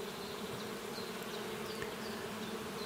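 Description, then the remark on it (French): Bees buzz in a steady, continuous drone that holds an even, low-pitched hum throughout, fairly quiet and unbroken, with no voices present. “Ces abeilles que vous voyez ont en horreur le mensonge et la malhonnêteté.”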